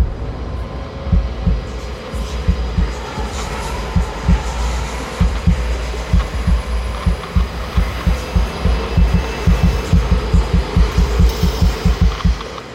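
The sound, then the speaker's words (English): A steady, thumping heartbeat pulses in low, muffled beats, quickening slightly as it goes, over a constant low hum with no voices. “I think just about everyone, at least once, has experienced that kind of palm sweating, heart thumping, mind racing anxiety,”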